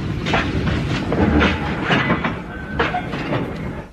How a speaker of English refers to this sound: Quick. The train stopped.